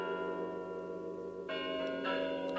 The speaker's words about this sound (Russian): Сейчас начнется самое главное. Это Москва. Это на Спасской башне часы звонят.